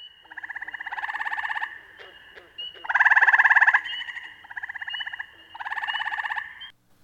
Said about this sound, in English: Or the short trill of a gray tree frog.